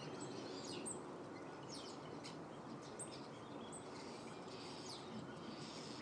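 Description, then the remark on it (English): Several birds sing in a garden in the morning, with quick high-pitched chirps and trills rising over a steady, soft background hiss. The calls are fairly faint and no one speaks. “Garden's so alive this morning. Yes. The birds have it this morning.”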